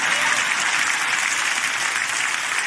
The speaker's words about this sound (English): of the people who leave church when I start giving the invitation, they're in such a hurry to get to the car that they miss the most meaningful part of the whole worship experience, when someone, if you're not clapping, I might be talking about you.